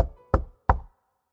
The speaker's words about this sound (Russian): Кто-то громко стучал в дверь каморки.